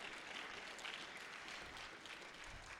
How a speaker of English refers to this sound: which I think we should give applause because that is really amazing.